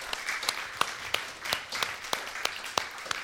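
A roomful of people applauding together, a steady patter of many hands with sharper individual claps standing out, moderately loud and sustained without any voices.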